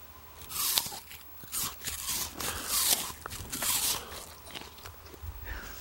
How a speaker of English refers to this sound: Do you want to have the listeners at home hear what a crunchy apple sounds like? Get really close to the microphone and chomp that apple.